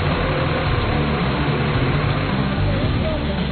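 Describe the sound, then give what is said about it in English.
A small tractor brought to a work site runs steadily, a constant low rumbling drone with a rough mechanical chug that holds an even loudness throughout. “Tell us what you brought to the site. A little tractor.”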